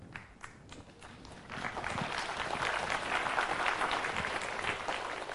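Audience applause starts as scattered claps, then swells around two seconds into dense, steady clapping from a crowd that keeps going to the end. No one speaks over it.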